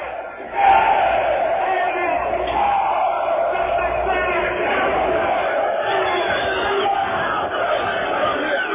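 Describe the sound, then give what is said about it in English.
A large crowd shouts and roars loudly in response to a speaker in a bright red robe, a dense, sustained wall of many voices yelling together that stays intense for several seconds without letting up. “He's just gotten several very loud responses from the crowd.”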